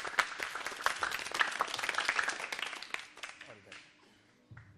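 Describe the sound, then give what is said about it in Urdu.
An audience bursts into loud, dense applause with many overlapping claps for about three seconds, welcoming a Team B participant, then it thins and dies away into near quiet, with a few voices mixed in. “تالیوں سے استقبال کریں.”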